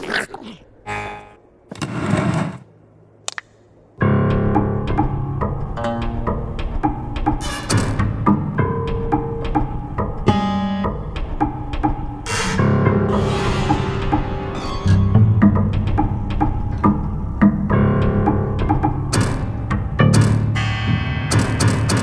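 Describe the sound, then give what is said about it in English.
Piano notes from a piano damaged by gunfire ring out with a buzzy metallic rattle jangling along from a metal box, dislodged by the gunshots, shaking inside the instrument; after a quieter opening the sound stays loud and continuous. “It sounds like something's rattling around in there.”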